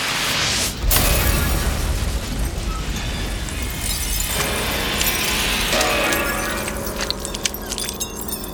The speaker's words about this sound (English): Instead, the stone sarcophagus burst open with a shattering sound.